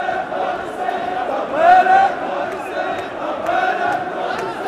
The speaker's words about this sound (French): Cette zone verte où les Irakiens ne peuvent entrer depuis 2003, ils y pénètrent. Une foule immense de manifestants excédés par les tergiversations du Parlement qui n'arrivent pas à voter les réformes qu'ils demandent depuis des mois.